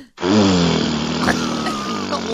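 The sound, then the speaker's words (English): A loud, drawn-out fart sound effect, a low, buzzy, steady rumble lasting about two seconds after a single spoken word, standing for a man running from the police who lets out a loud fart. “This dummy running from the cops let out a loud fart, and they're like, there he is.”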